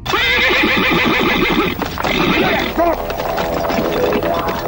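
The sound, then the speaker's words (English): A horse ridden at full speed by a fleeing farmer whinnies loudly, its shrill neighing rising and falling over a quick, rhythmic drumming of hooves as it gallops, the whinny tapering off toward the end. “He panicked, jumped on his horse, and started riding as fast as he could.”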